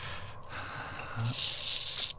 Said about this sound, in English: That breathing is so loud. This cave just... It's wrong. It feels alive.